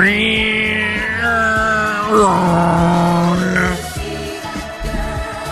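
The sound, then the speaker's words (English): A voice mimics a surgical bone saw during a story of an operation, with a loud, buzzing, harmonic whine that bends up and down in pitch, held almost continuously for about five seconds before breaking into rougher bursts. “And then all of a sudden, you hear the surgical saw just...”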